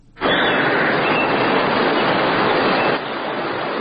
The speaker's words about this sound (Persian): چشمه انگشتشا منظره ای است که از دل کوه سر برآورده. آب زلال و شیرین با سر و صدای آرام بخش و بیرون می ریزد و موج مسیر سنگلاخ را در پیش می گیرد.